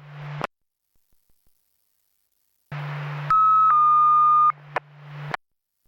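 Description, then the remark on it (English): Radio static hisses in bursts, then a steady fire dispatch alert tone sounds at two slightly different pitches for about a second, clear and fairly loud over the hum of the channel, alerting a fire engine to a commercial alarm at a mobile home park. “Alarm.”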